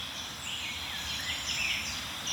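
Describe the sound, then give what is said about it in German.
At least four warblers sing at once from dense hedges and shrubbery, their quick, scratchy, chattering phrases overlapping continuously over a steady background hiss, with no voices present. “Dafür ist die Grasmücke ja auch bekannt. Sie liebt so diese Hecken und Sträucher, dichte Brombeerhecken.”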